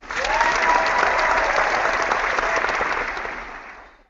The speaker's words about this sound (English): Welcome to the show, and let's give a round of applause to all of you out there.